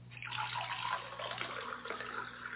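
Milk poured into a glass, a steady stream of splashing liquid that runs for a couple of seconds without pause, with no one speaking.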